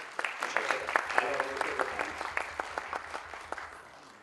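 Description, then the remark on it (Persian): An audience claps for several seconds, a brisk patter of many hands with sharp individual claps standing out, tapering off slightly toward the end. “لطفا تشویقش بکنید.”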